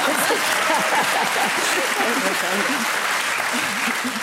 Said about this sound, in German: Genau. Und dann komme ich wieder in den Applaus.